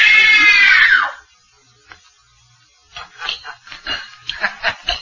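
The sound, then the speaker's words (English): A woman lets out a loud, piercing scream of terror on command during a scream test, lasting about a second and trailing off, followed by a short silence and then some quieter voices talking. “It was only a simple scream test, just to see how well … can follow direction.”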